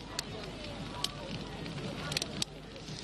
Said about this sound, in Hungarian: Most 190 a Celsius fokos folyékony nitrogént töltök ebbe a lombikba, azonnal meg is telik.